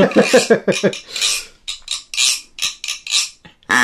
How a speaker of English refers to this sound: Oh, here we go. Castanets.